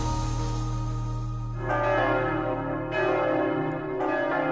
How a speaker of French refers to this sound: les cloches ont sonné et c'est l'heure du tour des diocèses.